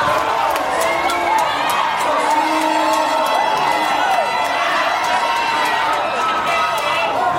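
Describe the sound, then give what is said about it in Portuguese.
A large crowd of Brazilian national team fans in Brasília roars and cheers continuously after Neymar scores the first goal, a loud, dense wall of voices with scattered whistles and shouts rising above it throughout. “O camisa 10 abriu o placar e levou a torcida ao delírio.”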